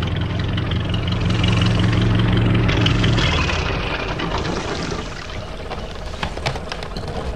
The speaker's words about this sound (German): Da legte ein kleines Boot am Steg an.